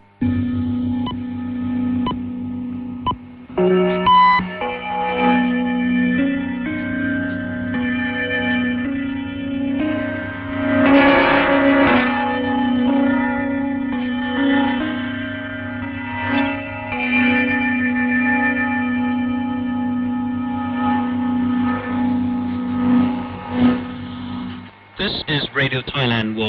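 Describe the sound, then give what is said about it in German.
A Thai shortwave radio interval signal of gongs and glockenspiel, used as station identification at the start of a German-language broadcast from Bangkok, rings out in sustained, shimmering tones over a steady low hum, sounding distorted and echoey, before cutting off abruptly near the end. “Die Sendung beginnt mit einem charakteristischen Sendezeichen aus Gongs und Glockenspiel als Stationskennung.”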